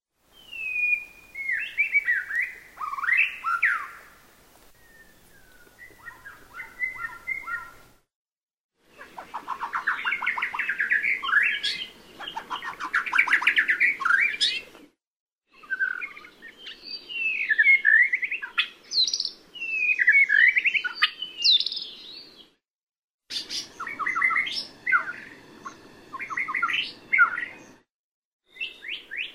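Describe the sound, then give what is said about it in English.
A shama, an introduced (alien) bird species known for a vast repertoire and mimicry, sings a long, varied song of rich whistles, trills and rapid chirps in bursts separated by short pauses, loud and bright with no talking. “The Shama is the prettiest singer among the alien species with the seemingly infinite repertoire.”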